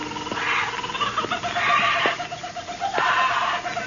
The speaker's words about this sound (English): Then I heard something. Old man Kelso had a huge aviary at one corner of the house. Something had disturbed the birds.